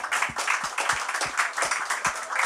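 Brief applause: a steady run of roughly nine even, crisp claps over a dense, hissy wash of clapping, with no voices.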